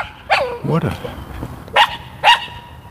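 A small terrier barks in short, sharp, high-pitched yaps, three or four separate barks spaced irregularly, clear against a quiet outdoor background.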